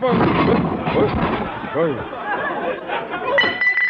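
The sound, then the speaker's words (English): A heavy statue of Caesar is accidentally knocked over and crashes, breaking into a sustained clatter of smashing, clinking fragments for several seconds, with voices mixed into the din. “Gosh, you accidentally knocked over old Conklin, Mr.”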